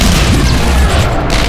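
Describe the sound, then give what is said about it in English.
Window glass shattering as two people are launched out through the window, a loud crash that fills the whole moment with a dense, rumbling roar of breaking debris, sustained rather than a single sharp hit, with no voices. “He launched us both out the window, glass shattering and bullets screaming past.”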